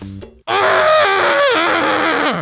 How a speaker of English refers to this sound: That was my scream. That was beautiful.